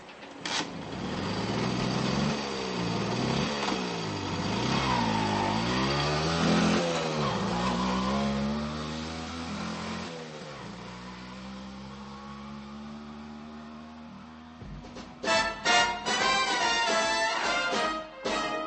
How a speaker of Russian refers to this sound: Пан Форщик двумя пальцами дотронулся до лба и дал газ. На влажной мостовой он почти с места крутанул машину на все 180 и с треском понесся куда-то к Вутале.